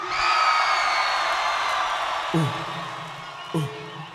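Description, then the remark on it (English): A live crowd screams and cheers in a loud, sustained roar for several seconds, answering a performer's call to scream. Two brief shouted calls cut through near the end. “Everybody just scream.”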